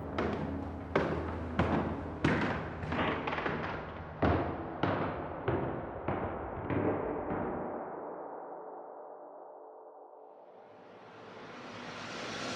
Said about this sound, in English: the footsteps turned and thumped towards the cellar.